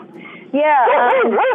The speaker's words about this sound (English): Yes, so there might be an occasional dog bark. I feel like I'm at home.